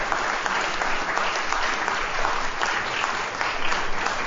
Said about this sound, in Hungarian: Azt egyszer már tisztáztuk, hogy itt szabad tapsolni, de akik kinn állnak ilyenkor, azok továbbítják a köszönetet az Úrnak. Tehát végül is ő hozzájut el.